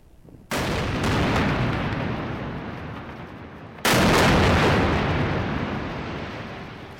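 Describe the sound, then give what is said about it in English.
Two powerful explosions a few seconds apart from an Israeli airstrike destroying a building with news outlets' offices in Gaza, each a sudden loud blast trailing into a long roaring rumble like debris and collapse, with no voices present. “Well, it was an explosion that literally rocked the media world.”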